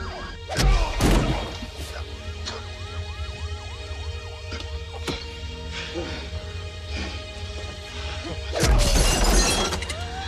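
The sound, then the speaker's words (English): Heavy punches land in a fight, a couple of sharp crunching impacts at the start and another burst of hits near the end, with a wavering siren wailing underneath throughout. “Have you ever heard anybody get hit and it sound like that? I mean, just listen.”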